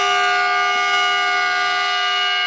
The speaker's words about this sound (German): Ab jetzt soll es in Aukrug besser werden. So haben die Akkuzüge im vergangenen Sommer gehupt.